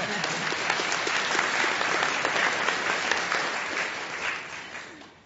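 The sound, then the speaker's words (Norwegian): An audience at a debate claps steadily in dense, sustained applause that holds for several seconds before gradually tapering off toward the end. “Ja, dere kan gjerne klappe mer for det, altså.”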